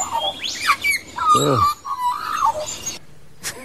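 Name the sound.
magpie call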